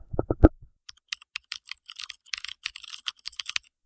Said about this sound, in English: Okay. You guys definitely heard that. That was my clickety-clackety DOS keyboard, my mechanical keyboard, my baby. I've had her for 4 or 5 years now.